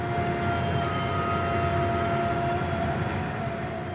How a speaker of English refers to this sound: To start out, I want to play you a piece of sound. And imagine you live right next door to this drill rig.